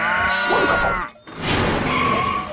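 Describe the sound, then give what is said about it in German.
Sheep bleat loudly, two wavering calls separated by a brief pause, with a rough, noisy background of movement as sheep and pigs, including Kulinda and Rüsselchen, run over a ramp into the Paw Patroller vehicle at a farm; no talking. “Kulinda, Rüsselchen und all die anderen Schafe und Schweine liefen über die Rampe ins Innere der rollenden Einsatzzentrale.”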